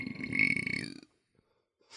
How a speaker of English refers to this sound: It sounded like you farted into a toilet bowl. That came out of your mouth. Just burping into the air.